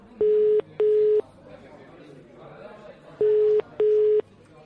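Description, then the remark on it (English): A telephone ringback tone sounds on the line in two double bursts, brring-brring, pause, brring-brring, steady and fairly loud over a faint murmur of background voices. “It's ringing.”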